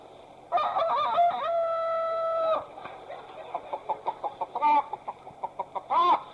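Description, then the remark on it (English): A chicken lets out a long, loud squawk, then a quick run of short clucks, ending with two sharper squawking calls, with no other sounds around it. “But for the rest of you, I wonder how far and how high can a chicken fly?”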